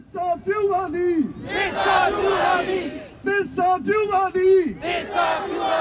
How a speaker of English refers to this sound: We'll never surrender is the chant being yelled, but not in the streets of Wangan, but from the lawn of the stately Allen County Courthouse in Fort Wayne, Indiana.